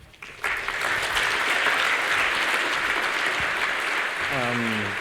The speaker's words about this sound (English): Please give a big round of applause to